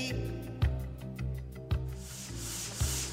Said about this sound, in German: Eine junge Frau schleift hier eine dicke Holzplatte und das Tollste an einer Tischlerei für mich ist, muss ich wirklich sagen, der Geruch.